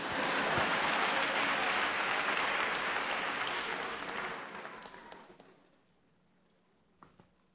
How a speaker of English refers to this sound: You can clap, that's all right.